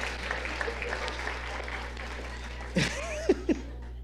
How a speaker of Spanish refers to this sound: ¡Hey! Un aplauso para mí. Eso.